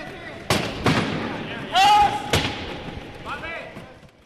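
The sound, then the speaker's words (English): Sports wheelchairs with side guards protecting the spokes slam into each other during a practice scrimmage in a few sharp, loud crashes, with high squeals of wheels or rubber in between and a lingering ringing clatter. “And there's side guards to protect the spokes when we slam into each other.”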